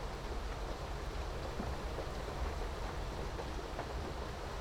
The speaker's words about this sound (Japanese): 今もこうして雨の音の中、布団にくるまってると森の中にいるみたい。